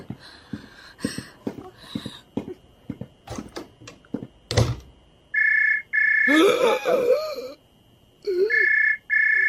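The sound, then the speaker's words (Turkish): A telephone rings in steady electronic tones, three long bursts with pauses between, after a stretch of clicks and knocks; a muffled voice speaks briefly between the rings. “Zeng açtılar.”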